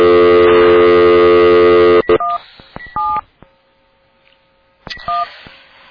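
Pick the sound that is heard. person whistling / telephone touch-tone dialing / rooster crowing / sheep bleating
telephone touch-tone dialing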